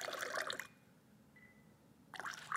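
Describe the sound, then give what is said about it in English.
Cold New York City tap water is slowly dribbled into a glass, trickling and splashing in two short bursts of liquid noise separated by a quiet pause, fairly soft, with no voices. “So we're just going to slowly dribble water into the glass.”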